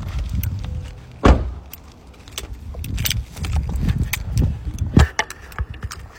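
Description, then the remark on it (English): A car's door locks clunk shut twice after a remote is pressed, amid jangling keys, shuffling footsteps and faint outdoor background noise, with no talking. “All right, we'll just hit the button.”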